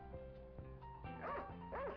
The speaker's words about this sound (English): we still hear a few faint barks.